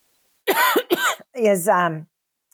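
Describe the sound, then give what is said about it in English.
Two fairly loud coughs in quick succession, followed by a longer rough, voiced throat-clearing sound, all heard alone with no talking. “I'm going to cough”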